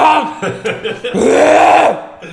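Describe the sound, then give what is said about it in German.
A voice imitates the throat clearing men do in the bathroom in the morning: a few short, gruff hacks followed by a long, rasping, groaning rumble that rises and falls in pitch, then a brief final grunt. “Das ist früher morgen, da räuspert man sich doch so.”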